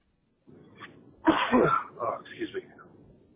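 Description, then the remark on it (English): A single sneeze bursts out after a quiet lead-in, followed by a couple of short breathy vocal sounds as it trails off. No words are spoken. “Bless you.”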